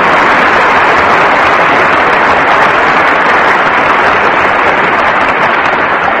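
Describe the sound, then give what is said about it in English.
A crowd applauds in a loud, steady wash of dense clapping that holds at an even level for about six seconds, with no voices rising above it. “The applause machine say, Harry?”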